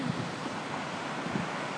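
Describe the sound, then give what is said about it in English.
A steady, hissing wash of sea surf in a lull between waves, soft and even without a distinct crash, mixed with some wind rumble across the microphone. “It goes quiet and loud.”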